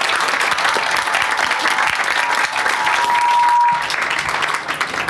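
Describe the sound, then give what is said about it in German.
Sustained applause from an audience, a dense, steady wash of many hands clapping for several seconds before easing slightly at the end. “erstmal einen Applaus für Stefan”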